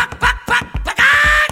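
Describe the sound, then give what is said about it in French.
A voice imitates a hen's clucking with a quick run of short, punchy bursts, then a longer drawn-out squawk, loud, with no other sound around it, during a sung French children's song. “Ma poule a fait.”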